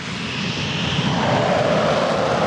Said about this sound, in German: Zwei Kampfjets vom Typ Eurofighter zünden ihre Triebwerke, donnern über das Rollfeld in den grauen Himmel über dem Fliegerhorst Lechfeld bei Augsburg. Es ist Mitte Mai. Auf dem Lechfeld laufen in diesem Moment die Vorbereitungen für Air Defender.